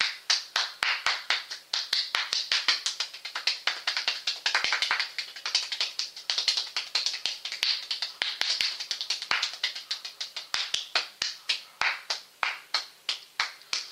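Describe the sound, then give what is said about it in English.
A steady series of sharp hand claps, starting nice and slow and then quickening into a fast, dense rhythm, with no one talking over them. “you will get tired after a while when you clap”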